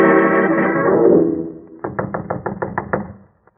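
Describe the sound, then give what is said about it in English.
A sustained, droning tone fades out, then Watson knocks about eight times, firmly, on the door of Professor Roberts' cottage at Boar's Hill in a quick, even rhythm before stopping. “Knock once more, Watson.”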